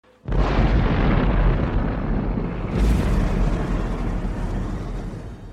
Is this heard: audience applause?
no